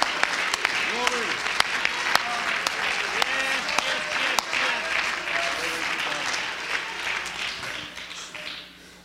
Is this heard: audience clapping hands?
yes